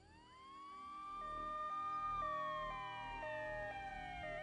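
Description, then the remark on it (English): Sirens from two or three fire engines driving past very fast blare together, a rising wail layered over a rapid two-tone pattern, swelling louder as the vehicles approach and easing slightly as they pass, with low traffic rumble underneath. “That was when I heard the sirens and saw two, maybe three fire engines driving past very fast.”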